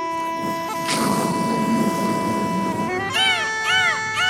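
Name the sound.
voice imitating thunder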